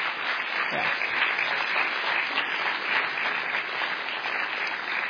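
Steady applause from an audience, a dense wash of many hands clapping at an even, fairly loud level for the whole stretch, with no voices standing out.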